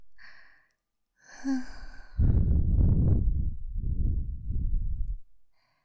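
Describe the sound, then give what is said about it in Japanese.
Breathy exhales of a boy maid blown right against the ear, a soft airy whisper-like breath followed by long, loud, rushing blows of sweet, warm air, intimate with no words. “男の子メイドの甘くて熱い息ですよ。”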